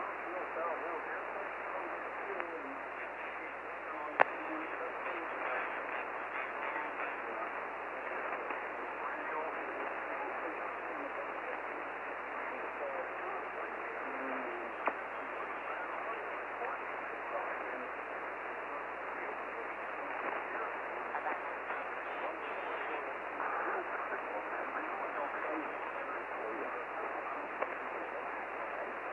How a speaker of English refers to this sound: And my static is very, very loud.